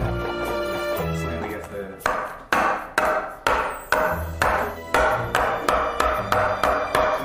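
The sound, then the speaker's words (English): A milk bag is banged on a counter, roughly a dozen sharp, hard thumps that come faster toward the end, following a couple of seconds of steady tonal background sound. “Hold up in here, like bang on the counter a few times.”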